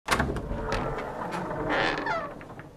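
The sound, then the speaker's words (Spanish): A door being shut forcefully, with a sharp start followed by nearly three seconds of loud rattling and scraping that fades slightly at the end. No one speaks. “Pero ¿quién está cerrando la puerta con semejante?”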